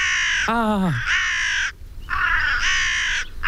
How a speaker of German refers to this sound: Die Krähen in Berlin, ist es ein Problem? Das fragen wir uns. Es gibt auf jeden Fall sehr, sehr viele Krähen. Laut einer NABU-Studie sind mindestens 4500 Nebelkrähen ständig in der Stadt unterwegs.